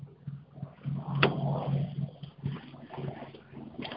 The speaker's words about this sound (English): Well, no, I just tried to open up the passenger door so I could get my stuff, and can't do it from the outside.